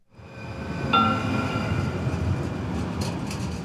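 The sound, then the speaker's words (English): A steady low rumble of a light rail train rolling along the tracks, approaching the 24th Street and Jefferson station, with a brief high metallic squeal near the start and faint clatter throughout, heard from inside the car. “I'm currently riding the train from work. Approaching station, 24th Street and Jefferson. I think I ride the light rail on average 3 days a week.”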